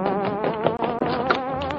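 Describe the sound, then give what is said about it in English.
A loud, continuous hornet-like buzz, the sound of the Green Hornet, with a rich, raspy tone and a slightly wavering pitch, broken by a brief gap partway through before resuming just as strongly. “Glory be! Suffering snakes, the Hornet, come on!”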